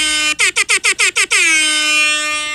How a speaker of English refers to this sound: Blast their eardrums with our air horns. We gotta get you to pay attention, you know?